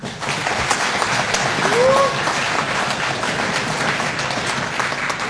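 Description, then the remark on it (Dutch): A crowd applauds steadily at the final of the fifth Haarlemmermeer school students' debate tournament as debaters are welcomed, the dense clapping filling the whole stretch at an even level, with a brief rising whistle or cheer near the start and faint voices mixed in. “Applaus.”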